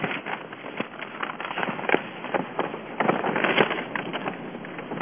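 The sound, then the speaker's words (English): Paper crackles and rustles as a page is turned, a steady run of dry, crisp crinkling snaps lasting several seconds with no voice over it. “I'm turning the page. That's that crackling noise.”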